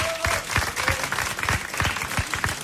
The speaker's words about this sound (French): Voilà, on peut les saluer, on les applaudit, on fait du bruit pour nos amis vosgiens, s'il vous plaît.